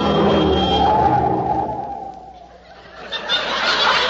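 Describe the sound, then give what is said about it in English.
A steady, broad rushing roar of a car on the road, loud at first, easing off briefly in the middle, then swelling again toward the end, with no voices. “Willie, get out of the road. A car's coming.”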